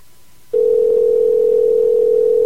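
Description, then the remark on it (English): After a brief hush, a telephone dial tone on a long-distance call to Scotland starts abruptly and holds as one steady, loud, unbroken mid-low hum, with no voices over it. “We're going to leave him a voicemail.”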